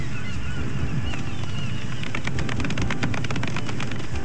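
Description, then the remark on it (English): A golf clap: soft, polite clapping from a few people, a scattered patter of light hand claps building over a low rumbling background, with a couple of faint honk-like tones early on. “Golf clap? Golf clap.”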